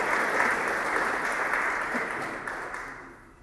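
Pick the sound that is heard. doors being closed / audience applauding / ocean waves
audience applauding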